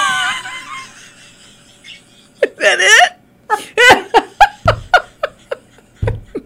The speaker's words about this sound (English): the bird behind me won't shut up